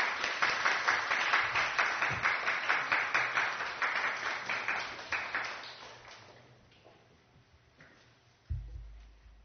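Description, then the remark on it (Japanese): An audience in Tokyo claps steadily for several seconds to welcome a preacher before a sermon, a dense patter of many hands that gradually thins and fades out, followed by a brief low thump near the end. “拍手を持って先生をお迎えいたしましょう。”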